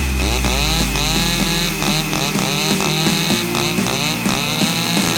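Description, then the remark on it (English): Chainsaw engines run loud for the whole stretch as a performer juggles the chainsaws, their buzzing whine rising and falling in pitch as they rev, with no talking over them. “Because if you weren't impressed by the drone, wait until he juggles chainsaws.”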